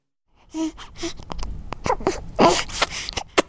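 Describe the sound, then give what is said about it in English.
A newborn baby whimpers softly while breastfeeding in the HIV section at Zitulele, in a few short, high, breathy cries, mixed with gasping breaths and small wet suckling and mouth sounds. No one speaks. “A newborn baby breastfeeds in Zitulele's HIV section.”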